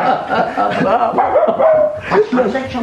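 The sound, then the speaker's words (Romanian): A young dog, brought for Lieutenant Lucaș, barks in a quick, excited string of short yaps mixed with whiny, yelping tones, fairly loud, continuing for a few seconds. “De când am intrat ordonanță la domnul locotenent Lucaș, dânsul nu-și mai dorea altceva decât un cățel ca ăsta.”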